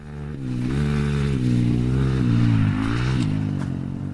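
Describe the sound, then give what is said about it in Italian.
Two motocross motorcycles rev loudly on a large dirt motocross track in semi-desert about an hour's drive outside Tehran, Iran, their engine pitch rising and falling in repeated surges with a steady droning buzz throughout, no voices heard. “Sul circuito oggi ci sono solo due moto, quella di Baran Adizadeh e quella del suo allenatore.”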